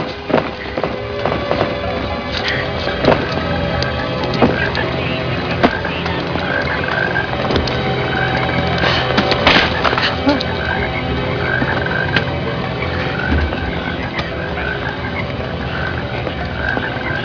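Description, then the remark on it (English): A dense chorus of toads croaking continuously, many calls overlapping in a steady, rattling drone, with occasional sharper clicks and thuds standing out from the mass of sound. “toads just fell from the sky.”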